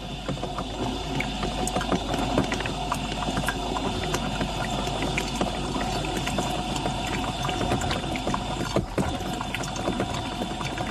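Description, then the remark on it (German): A coffee machine, just descaled and rinsed clean, runs steadily, its pump humming under a continuous splash and trickle of water, fairly loud for about eleven seconds with no talking. “Und danach hört ihr eure Kaffeemaschine wieder sauber plätschern.”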